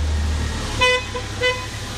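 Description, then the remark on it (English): Two short, bright horn beeps sound about half a second apart over a low rumbling engine idle, fairly loud: a forklift honking at an intersection of aisles. “And that's why they also honk at every intersection.”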